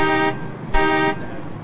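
Two loud car horn honks, one short and one longer, sound over a steady rumble of street traffic.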